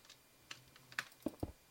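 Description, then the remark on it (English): Several sharp clicks of a keyboard and mouse while someone plays Minecraft, in an irregular rhythm, a handful of distinct taps over a couple of seconds with no one talking. “Do you hear the blocks that are clicking?”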